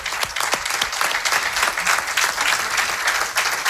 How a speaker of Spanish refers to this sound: Un aplauso para ellos.